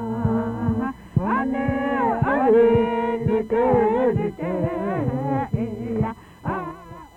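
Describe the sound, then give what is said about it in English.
Whale song recorded by Dr. Roger Payne: a continuous run of harmonic, moaning calls that swoop up and down in pitch, with some held wails and short rising cries, fairly loud and with no talking. “Since this program is concerned with whale hunting, we thought we'd start with the sounds of a whale song recorded by Dr. Roger Payne.”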